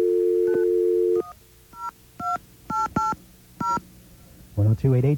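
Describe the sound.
A steady telephone dial tone hums for about a second, then a quick run of roughly seven touch-tone beeps dials out to AT&T at an uneven pace, followed by a voice starting to speak at the end.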